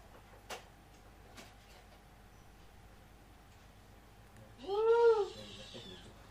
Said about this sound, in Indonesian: Ya kita kedatangan kamu, yaitu Meli, si kucing nakal. Kucing nakal, Meli.